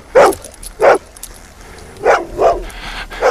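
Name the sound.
dog barking and whimpering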